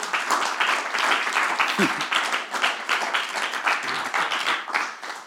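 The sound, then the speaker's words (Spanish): A church audience applauds the Lord during a sermon, a dense, continuous wash of many hands clapping at even loudness for several seconds, with a brief voice or cheer rising through the crowd noise. “¿Cuántos pueden aplaudir al Señor?”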